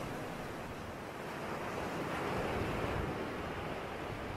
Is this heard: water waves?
yes